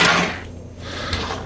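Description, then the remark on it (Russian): A tossed 1958 coin lands with a bright metallic clink, followed by a brief rattle and a second faint ring a moment later, with no voices. “У нее лишь орел и решка. Тебе надо только выбрать.”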